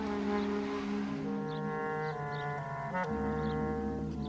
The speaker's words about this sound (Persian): ننه صغرا با ماشین عبدالله از روستا دور میشود.